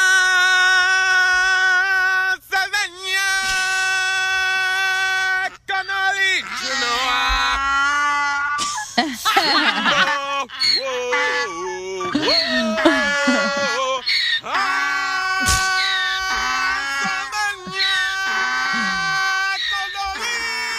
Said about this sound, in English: he's got like a donkey. Like, hee-haw, hee-haw.